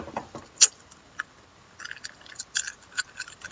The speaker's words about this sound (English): Cough drop noises. See? Cough drop.